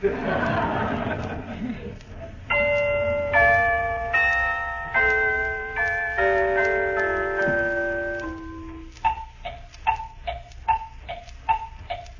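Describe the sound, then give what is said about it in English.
Shimmering bell-like tones ring out, then a clock ticks steadily, about seven crisp, evenly spaced clicks, clear. The ticking sounds woody, like a percussion instrument imitating a clock. “The clock.”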